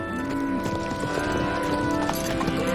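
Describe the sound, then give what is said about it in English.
Steady clip-clop of the hooves of a horse being ridden down a dirt road through rolling hills, trotting at a regular rhythm, clear, with a sustained tonal background layer running underneath throughout. “Will rides off on the horse.”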